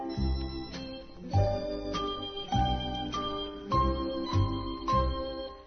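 A bell chime rings out a steady series of struck tones, each note sustaining with bright, shimmering overtones as the next one sounds. No voices are heard.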